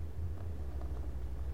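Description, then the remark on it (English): A deep, steady engine rumble from big Harley motorcycles, a low throbbing drone that holds at an even, moderate level throughout with no voices. “Well, the motorcycle fanatics are out today with their big, loud motorcycles, with their Harley motorcycles.”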